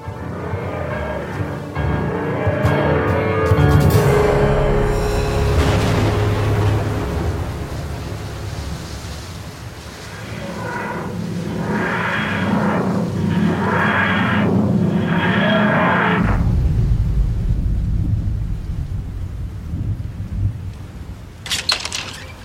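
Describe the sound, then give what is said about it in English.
A thunderstorm at night in Kent, with deep, rolling thunder rumbling continuously, several long booms swelling and fading over steady rain-like noise, with a sharp crack near the end. “It was a dark and stormy night.”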